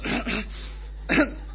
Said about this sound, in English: So you do the old cough move.